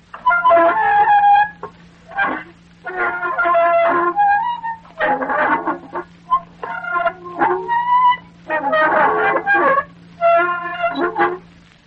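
A magnified recording of a rusty door hinge creaking in a series of drawn-out, squealing groans, about eight strained bursts with wavering pitch, over a steady low hum.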